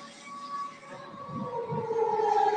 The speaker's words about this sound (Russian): Слышите, работает ПВО, сирена.